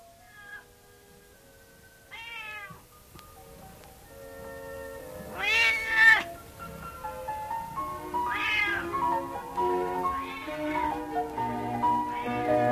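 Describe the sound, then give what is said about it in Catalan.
A cat meows several times in a row, drawn-out and plaintive, loudest midway through, over a soft sustained musical backing with no one talking. “I aquí hi ha un gos, i aquí hi ha un gat,”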